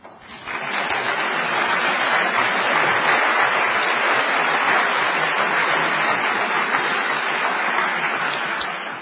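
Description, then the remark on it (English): Sustained applause from a sizable crowd, a dense steady wash of clapping that starts abruptly and holds at a fairly loud level for several seconds without any talking. “We always appreciate applause or laughter because it gives the speaker a chance to get a drink.”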